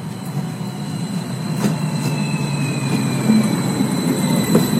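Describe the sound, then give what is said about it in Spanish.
A steady low rumble of the Tren Insurgente passenger train rolling along the rails in central Mexico, with faint high metallic whines and occasional clacks. No talking. “El tren Insurgente representa un paso significativo para la infraestructura de transporte de pasajeros en el centro de México.”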